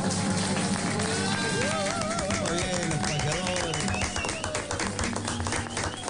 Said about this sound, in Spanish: Y los aplausos son para esta payada